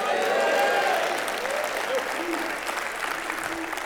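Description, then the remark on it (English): A church audience claps hands when one side is prompted to clap, a dense, steady patter of overlapping applause, fairly loud throughout, with faint crowd voices mixed in underneath. “That's a very feminine clap, by the way.”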